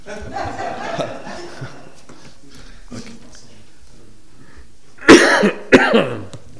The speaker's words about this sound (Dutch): Ja, misschien hoestte de voorzitter net ook.